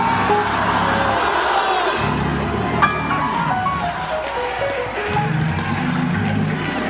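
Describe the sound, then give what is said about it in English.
An audience hollers loudly all at once, a dense, sustained wall of overlapping shouts and whoops with rising and falling voices and no break for the whole stretch. “Why don't you just at the top of your voice do it as loud as you can?”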